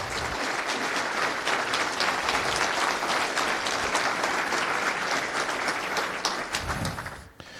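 A crowd at FOSDEM claps steadily for the event's volunteers for about seven seconds, a dense, even wash of many hands that thins out and stops abruptly at the end. No one speaks.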